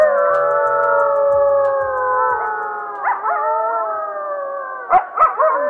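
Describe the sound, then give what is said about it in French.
Several wolves howl together in a long, overlapping chorus of sustained wavering tones, rising near the middle and breaking into short yips toward the end. No one speaks. “Est-ce que ce sont bien des loups qu'on entend là ?”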